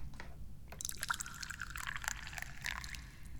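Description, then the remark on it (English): Tea pours steadily into a cup, a continuous splashing trickle whose pitch shifts as the cup fills, with low background rumble underneath and no talking. “I know I am, because now it's time to pour the tea.”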